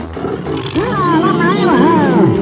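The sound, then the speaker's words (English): An angry tiger's snarling roar rises and falls in strained, wavering growls as a truck driver's head is stuck in its mouth, loud, lasting a couple of seconds over a rumbling background. “will take the gooey truck driver's head and stick it in this angry tiger's mouth.”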